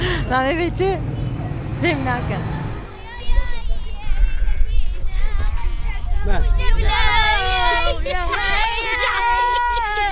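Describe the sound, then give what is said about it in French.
Lively chatter from many families in Washokani refugee camp, where 16,000 refugees live, with children's high voices rising over a steady hubbub of overlapping talk and a low rumble underneath, continuous and fairly loud throughout. “Ici, on est dans un camp qui s'appelle Washokani. 16 000 réfugiés vivent ici. Beaucoup de familles, hein, vous l'entendez.”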